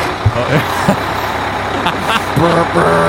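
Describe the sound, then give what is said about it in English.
A bus engine rumbles loudly and steadily, with a broad hissing noise over it and a few short thumps. A brief tonal sound near the end could be a voice or a horn. “The bus sounds aren't that great.”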